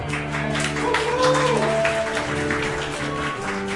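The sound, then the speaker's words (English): A crowd claps steadily throughout for guests being welcomed back, a dense wash of hand claps mixed with sustained organ-like tones playing underneath. “applaud for them.”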